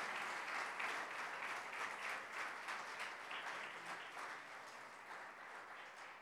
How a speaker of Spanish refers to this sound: ¿No merece el Señor por esto un aplauso de alabanza nuestro? Yo creo que sí, ¿no?